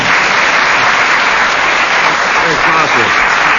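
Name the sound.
audience applause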